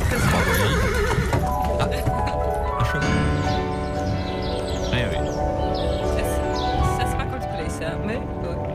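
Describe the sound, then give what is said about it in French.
A horse whinnies loudly while hooves clip-clop steadily beneath it, set against a dense, continuous backdrop of other sound that runs through the whole stretch. “Ça, c'est, ça je ne sais pas, on a un cheval.”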